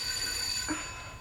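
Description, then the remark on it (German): A doorbell of a residential house is pressed and held, ringing continuously in a steady, shrill electric tone for the whole moment, fairly quiet and even, with no voices over it. “Drück nochmal auf die Klingel”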